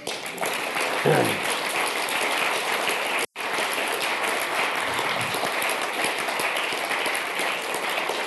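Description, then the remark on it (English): A crowd applauds the Lord during a sermon, a dense wash of many hands clapping at once, loud and sustained for several seconds with a brief dropout partway through. “Anyway, give the Lord a clap.”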